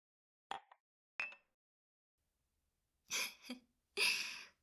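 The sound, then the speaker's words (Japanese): Two light clinks of coffee cups meeting in a toast, each a short bright tap with a brief ring, followed by a couple of softer, breathy rustling sounds. “コーヒーで乾杯するの、初めてだよ、先生。”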